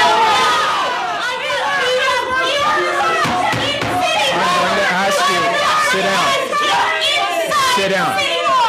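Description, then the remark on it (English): A loud, agitated crowd shouts and talks over one another in city council chambers as a commissioner tries to address it, a dense, unbroken wall of overlapping voices that stays intense from start to finish. “as Commissioner … tried to address a typically impassioned crowd”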